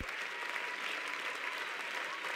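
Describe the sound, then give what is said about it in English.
A crowd applauds steadily for people as they come in, many hands clapping in a dense, continuous patter with no pauses and no voices standing out. “Clap hands for them.”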